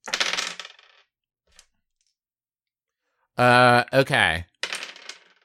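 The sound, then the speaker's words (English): Dice clatter and rattle across a hard surface in two short bursts, rolled for fireball damage in a tabletop role-playing game, separated by a pause and a loud, drawn-out vocal sound. “So all three of you save, and now I need to roll a bunch of dice.”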